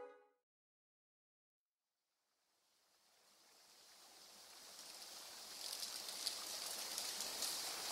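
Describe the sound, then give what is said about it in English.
After a moment of silence, the Sugar River's rapids beneath a covered bridge rush in, swelling gradually into a steady, loud hissing roar of churning water that carries on without a break, on a warm, breezy late afternoon. “It's a warm, breezy day, and the Sugar River turns to rapids beneath the bridge.”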